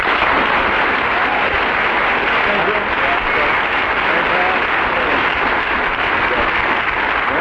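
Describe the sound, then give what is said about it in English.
Sustained applause from a large audience indicating which team they think won, a dense, steady wash of clapping that stays loud and even throughout without any talking. “I'm going to ask the audience to indicate through their applause which team they thought won that one.”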